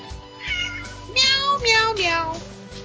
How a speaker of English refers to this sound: Meow, meow, meow. Silly cat.